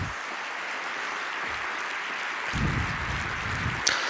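Steady, dense applause from a congress audience welcoming economist Maja Göpel, a continuous wash of many hands clapping at an even level, growing slightly louder toward the end with a brief sharp accent near the close.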